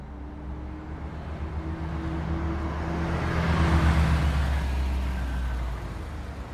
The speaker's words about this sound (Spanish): Con el cañón del revólver de Centurión en la nuca, el chofer de la línea rápido Caguazú aceleraba a fondo sin reparar en los baches propios del camino.